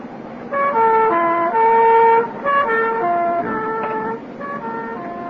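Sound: ambulance siren passing by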